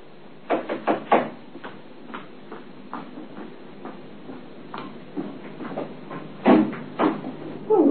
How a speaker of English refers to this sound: Next morning, I was having breakfast when I heard the postman knock at the door.